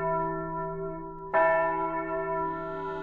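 Church bells toll with a deep, sustained ring, a fresh strike landing midway and swelling over the fading hum of the previous one. Loud and resonant, with no voices present.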